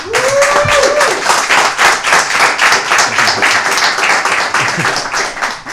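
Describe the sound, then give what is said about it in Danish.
A studio audience of cycling enthusiasts, gathered in the Veluropa café, applauds steadily, many hands clapping in a dense, continuous patter that stays loud throughout, with a brief whoop or cheer rising near the start. “Så velkommen til publikum, og giv lige jer selv en hånd.”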